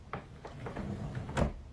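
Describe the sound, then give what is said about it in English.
A wooden dresser drawer slides along its runners with a low, scraping rumble, ending in a firmer clunk as it stops, as someone looks through the drawers for a shirt. It sounds moderately quiet, with no voices. “Maybe this drawer?”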